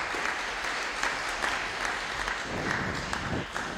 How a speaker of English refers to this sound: I think you probably get a round of applause for those.